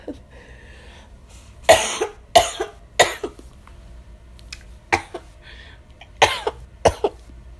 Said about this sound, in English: I know my cough is terrible.